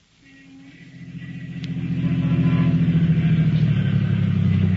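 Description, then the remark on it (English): A car engine rumbles low and steady, swelling from quiet to a throbbing idle as the car, carrying two men, pulls to a stop in front of a house in East Baltimore, with no voices. “Two men were riding in a car which was pulling to a stop in front of a house in East Baltimore.”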